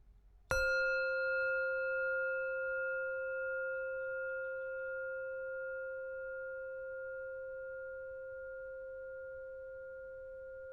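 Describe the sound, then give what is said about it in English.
A single meditation bell is struck once to start a meditation, a sharp attack followed by a long, steady ringing of bright overlapping tones that slowly fades over about ten seconds, heard alone without speech. “As always, I'll ring my bell once to start the meditation and 3 times at the end.”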